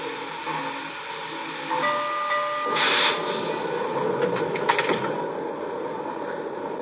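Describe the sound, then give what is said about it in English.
Passenger train number 408 from Seattle rolls into Tacoma station on track one with a steady mechanical rumble. Thin, high brake squeals rise midway, and loud clattering bursts come near the end. “from Seattle on track one, train number 408.”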